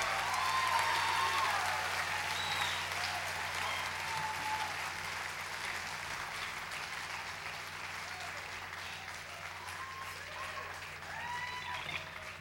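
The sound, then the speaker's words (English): Sustained audience applause for the Burbank Philharmonic orchestra, conducted by Don Davis, a dense steady patter of many hands clapping for several seconds, with scattered whoops and cheers rising above it and a low hum underneath. “How about a nice round of applause for who we now finally refer to as the Burbank Philharmonic, conducted by Don Davis.”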